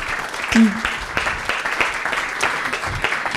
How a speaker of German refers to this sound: Danke für den kurzen Impuls und die Intervention. Kleiner Applaus auch für dich.